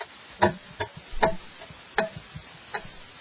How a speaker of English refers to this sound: So you heard our exciting clock. That's the GCN atomic clock counting down with us the time